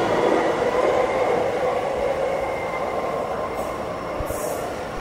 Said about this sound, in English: And again, this is a station with multiple trains. Two trains just left on this platform. There's another train on another platform.